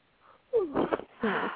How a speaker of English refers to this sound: I'm sorry if you heard me yawn.